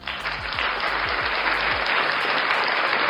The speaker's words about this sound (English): And for those of you who did, let me just give you guys a round of applause.